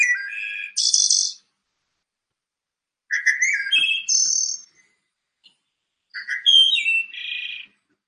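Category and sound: bird, wood thrush song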